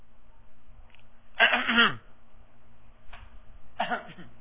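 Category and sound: human body sound, fake cough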